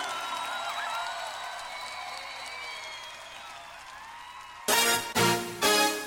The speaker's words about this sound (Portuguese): E aplauda Jesus, o dono da tua vida.